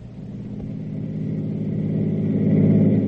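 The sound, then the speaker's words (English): The Brent car's engine hums steadily and builds as the vehicle pulls away from the station, carrying three people home, its low drone growing gradually louder over a few seconds, with no voices. “After introductions and explanations were over, the three of them climbed into the Brent car and headed home.”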